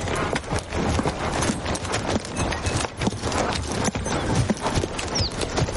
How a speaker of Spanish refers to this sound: Abigail y Dyer se marchan a caballo.